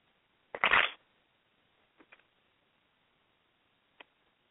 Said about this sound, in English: And as I shuffle the cards, all right, so this is what Archangel Michael has to say.